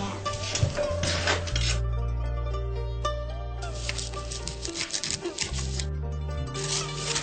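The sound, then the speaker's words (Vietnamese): A knife chops pandan leaves into short pieces on a board while water comes to a boil, in quick, clicky taps, repeated in bursts over a steady background music bed. No one speaks. “Trong thời gian chờ nước sôi, con giúp cô cắt lá dứa thành từng khúc nha.”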